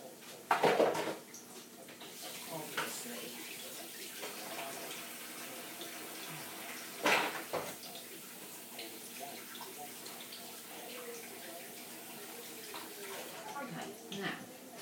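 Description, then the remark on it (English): Water runs from a tap in a steady hiss with splashing and rubbing as hands are washed beneath it after preparing a plate of sausages, a couple of louder clunks and splashes standing out near the start and midway. “Let's wash my hands so they're raw.”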